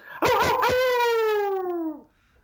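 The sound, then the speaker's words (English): A Canadian man imitates a hound dog's howl: one long, loud, drawn-out wail whose pitch sags slowly for nearly two seconds before cutting off into silence. “So why don't you just go ahead and give me your best old hound dog howl.”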